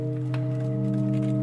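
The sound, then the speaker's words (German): A steady chord of sustained organ pipe tones from a keyless wooden-frame organ, a newly added pipe blending with five others into one continuous, droning sound at an even volume with no voices present. “Ihr Klang vermischt sich mit dem der anderen 5 Pfeifen.”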